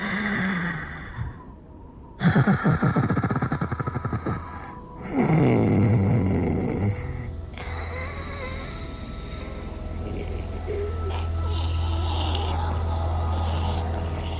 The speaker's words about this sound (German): Du schnarchst ja noch wie früher.